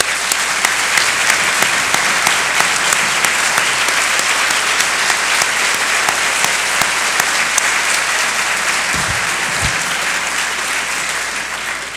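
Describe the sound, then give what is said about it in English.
A large audience at a Cornell alumni gathering claps in sustained applause for the standing Board of Trustees for about twelve seconds, a dense, steady wash of many hands that stays loud throughout and tapers only slightly at the end, with no talking. “In fact, the entire Board of Trustees is really quite amazing, and even though we've been doing a lot of acknowledgement, can I ask all the trustees to stand, and let's give them one more round of applause.”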